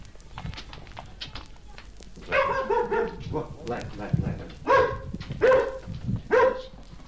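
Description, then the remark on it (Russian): A dog barks at visitors several times in short, loud bursts, with a few rougher yelps mixed in; the barks come in an uneven rhythm over faint background noise. “Эта собака встречает всегда всех посетителей вот этим приветливым голосом.”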